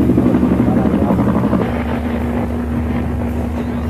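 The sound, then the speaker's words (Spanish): A helicopter, part of a naval operation surrounding a ship at sea after dawn, drones loudly and steadily, its low rotor hum holding a constant pitch, with gusty wind rumbling across the microphone throughout. “Estábamos rodeados por un operativo naval que incluía, además de barcos, aviones y helicópteros.”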